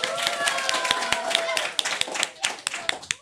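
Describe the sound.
Students of Groep Oranje in Amsterdam Nieuw-West applaud themselves and each other, clapping together in a dense, steady burst of applause that thins out toward the end into a few scattered individual claps. Faint tonal voices sound under the clapping early on.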